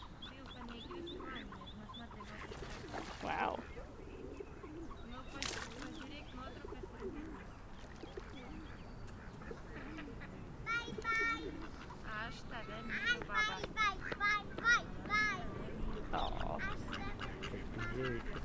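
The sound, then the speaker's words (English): Squeaky calls of a duckling a little older than the other ducklings, shrill high-pitched peeps repeated in quick bursts, growing busier toward the end over a steady outdoor background, with a person speaking briefly. “It's a little older than the other ducklings. It's really squeaky for a duckling.”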